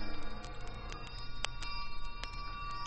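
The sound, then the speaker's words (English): Bells ring softly at Krishiva Mission, their sustained tones overlapping and humming, with occasional faint strikes throughout. No one speaks. “Bells, remind me of...”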